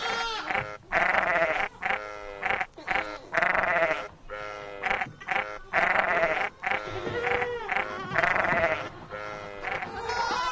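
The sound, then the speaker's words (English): Lataxa dairy sheep, a breed native to the Basque country, bleat repeatedly and loudly, several overlapping wavering cries from a flock, with brief gaps between calls and no talking. “The Lataxa is a breed of domestic sheep native to the Basque country”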